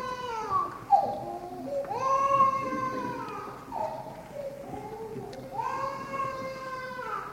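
A baby cries in a string of drawn-out, warbling wails with short breaths between them, moderately loud, with no talking.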